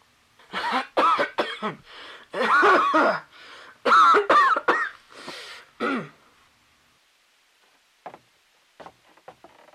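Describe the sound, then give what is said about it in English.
A loud fit of harsh coughing and throat clearing in several bursts over about five seconds, followed by quiet with a few faint camera clicks. “Seven minutes pass with footsteps, camera clicks, and … cough the only sounds.”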